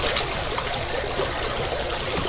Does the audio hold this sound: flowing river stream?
yes